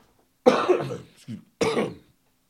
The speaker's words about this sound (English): But so I'm speaking at a low energy and reminding myself that the longer I speak, the more I encourage, the more likely I will start coughing and go into a coughing fit and have to stop recording.